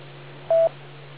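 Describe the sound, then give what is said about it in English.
A single short telephone tone beeps once, loud and steady in pitch, over a constant low electrical hum, with no talking. “I got a phone call.”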